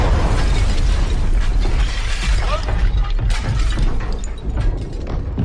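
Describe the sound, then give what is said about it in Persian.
Artillery cannons, two miles behind the front line, fire at enemy German guns in a dense, loud barrage: heavy low rumbling booms overlap with sharp cracking bursts, sustained without pause for several seconds. “پس توپامونو برای زدن توپای دشمن تنظیم کردیم.”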